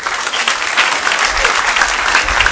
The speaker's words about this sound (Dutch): Groot applaus voor de jeugdclub.